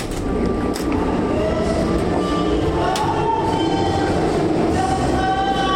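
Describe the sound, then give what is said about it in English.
One of the enormous thrusters that keep the research vessel JR on site rumbles loudly and steadily, a deep mechanical roar with faint whining tones on top, mixed with wind and the wash of waves; no one speaks. “It's a little bit of JR karaoke al fresco with the wind, water, waves, and the enormous sound of one of the thrusters that keep us on site.”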